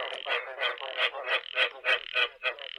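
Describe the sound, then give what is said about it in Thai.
A frog croaks in a quick, steady series of about nine rasping pulses, fairly close and clear, with a faint constant hum in the background and no voices. “ตัวอย่างสัตว์เลือดเย็นก็ได้แก่ปลาสัตว์ครึ่งบกครึ่งน้ำอย่างกบคางคกอึ่งอ่าง”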